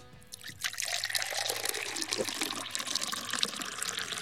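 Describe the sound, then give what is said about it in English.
Liquid pours steadily into a container during a game in which players shout stop, a continuous splashing, gurgling stream that starts abruptly after a brief quiet moment and keeps flowing without a break. “So we're going to start pouring and you just need to shout stop.”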